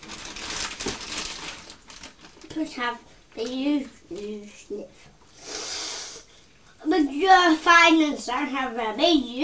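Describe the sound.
A loud, noisy sniff rushes in at lunchtime, a single breathy burst between stretches of voices talking.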